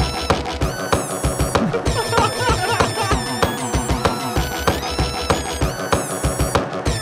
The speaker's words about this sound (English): The melody is him letting the air squeak out of a filled up balloon. The high melody, he's doing it that way?